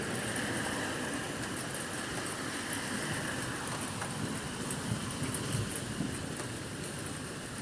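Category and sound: nature, rumbling thunder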